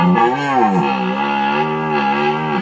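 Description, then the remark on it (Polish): A red deer stag roars during the rut, the mating season in late September and October, a deep, loud, continuous bellow with rich harmonics that rises and falls in pitch over a couple of seconds, in wet alder forest near Leszno and Długie Stare, Poland. “Rykowisko jest to okres godowy jeleni szlachetnych, trwający na przełomie września i października.”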